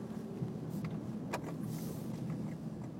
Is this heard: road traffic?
yes